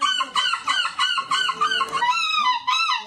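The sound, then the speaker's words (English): Human voices imitate seagull calls in an annual seagull-imitation competition in Belgium, the winning entries: a rapid string of loud, harsh, nasal squawks, repeated over and over and partly overlapping, with no gaps. “Those were the winning seagulls.”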